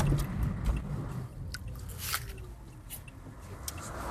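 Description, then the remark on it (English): Crunchy bites into a leftover, aging apple, a few crisp snaps spaced over several seconds with wet chewing in between and no talking. “You sure I can't tempt you with a bite of this leftover apple?”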